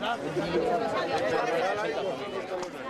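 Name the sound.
crowd chatter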